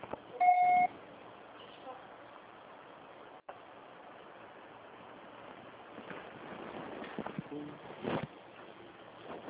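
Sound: voicemail beep signal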